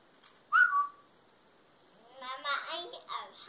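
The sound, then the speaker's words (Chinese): A mother whistles one short, clear note that glides slightly, loud, followed a moment later by a child's high-pitched voice talking. “啊，妈妈吹口哨。”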